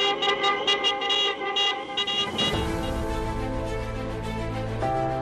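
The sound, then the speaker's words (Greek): In Greece, car horns honk to the rhythm of a slogan in short repeated toots, then merge into a long, sustained blare of several horns at once, loud, with no talking, as thousands of people walk toward the old Ellinikon airport. “Λίγες ώρες αργότερα, χιλιάδες άνθρωποι θα κατηφόριζαν με τα πόδια προς το παλιό αεροδρόμιο του Ελληνικού, ενώ τα αυτοκίνητα θα χτυπούσαν τις κόρνες τους στο ρυθμό ενός συνθήματος.”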